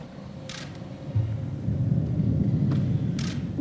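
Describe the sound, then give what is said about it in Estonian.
A storm with deep rolling thunder rumbling steadily, swelling louder partway through, with brief hissing gusts of wind or rain over it. No voices. “Nii et ikkagi sinu torm. Tuulede tormid ei kuulu inimestele.”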